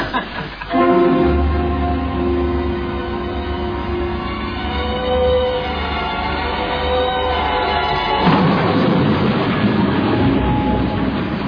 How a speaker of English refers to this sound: England, 1935. And across the bleak Yorkshire countryside, a lonely train chugs slowly through the night.